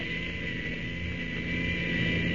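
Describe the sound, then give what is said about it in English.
A plane's newly fitted self-starter starts the engine from the pilot's seat before take-off for Lake Minto. The engine settles into a steady droning roar, growing slightly louder partway through. No voices are heard. “I've had a self-starter put in just to keep up with the times a bit, and she works fine. You just watch and see.”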